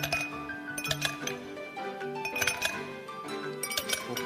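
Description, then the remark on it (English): Ice cubes clink and rattle against a glass, bright repeated chimes and taps in irregular bursts as the glass is shaken, fairly clear with no talking. “The Joy-Con can convey to you the feeling of ice cubes colliding in a cup.”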